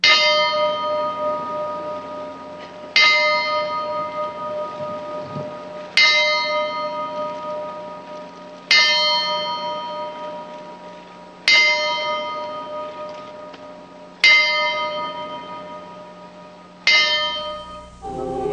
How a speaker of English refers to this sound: An hour after it began, the memorial service came to a mournful climax when a young sailor stepped to a large silver bell and tolled seven times for Columbia's gallant crew.